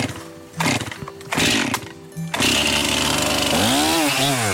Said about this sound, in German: legt die Säge an. Aus dem Fichtenstamm sprudeln helle Späne.